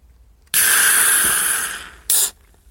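A fizzy drink is opened with a loud, sustained hiss of gas lasting over a second and slowly easing, followed by a short second burst of hissing.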